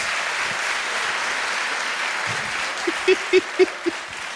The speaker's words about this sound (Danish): Nå, klap, hvis I har set Army of Darkness til i dag, eller bare nogensinde.